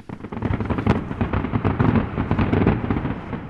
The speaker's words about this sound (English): Fireworks and gunfire, possibly celebration at news of the government's success in the east.